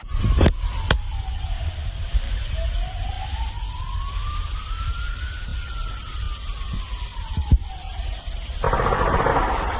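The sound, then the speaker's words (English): A wailing siren rises and falls slowly for about six or seven seconds outdoors, recorded by a bystander, then a few sharp gunshots crack out, followed by a dense, rapid burst of gunfire near the end. “You'll hear sirens for about 6 or 7 seconds, and then you'll hear gunshots.”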